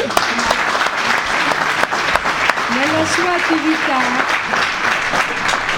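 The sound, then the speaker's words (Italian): Sustained applause from a crowd for a physics professor who is a founding member and secretary of the Cagliari section of the AIF association, a dense steady clatter of many hands clapping throughout, with a voice briefly audible underneath partway through. “Un applauso.”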